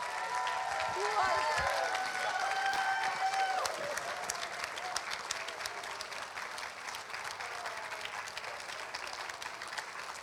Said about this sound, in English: Can we just stand up and give her a round of applause for being here tonight?